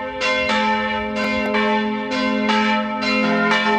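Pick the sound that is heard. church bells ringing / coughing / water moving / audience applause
church bells ringing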